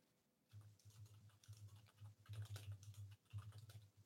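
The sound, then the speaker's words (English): Quick, irregular clicking of keys on a computer keyboard as someone searches on Google, a steady run of soft taps with a low background hum and no one speaking. “Are you Googling in the background? Or are you thinking? I hear typing, but you're looking off to the sky.”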